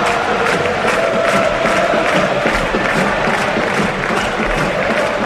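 A large stadium crowd at a Barça match chants Xavi Hernández's name, led by the supporters' section, while the rest of the stadium answers with applause, a dense, loud wall of voices and clapping with rhythmic pulses of the chant rising above it.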